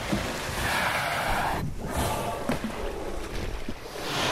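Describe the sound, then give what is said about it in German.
A huge right whale surfaces just a few metres from a boat, its rush of water and breath forming a loud, steady wash of splashing and sea noise, with a brief lull midway and no voices. “Plötzlich taucht nur wenige Meter vom Boot ein riesiger Glattwal auf.”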